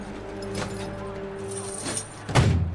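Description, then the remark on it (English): A car door is slammed a few times but fails to latch, each attempt a dull metallic thud, the last one loudest, over a steady low hum. “The door won't shut.”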